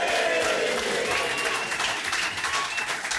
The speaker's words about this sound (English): Can we have another even bigger cheer for the main man who's come dressed as a banana this evening, ladies and gentlemen, Mr. James Haskell!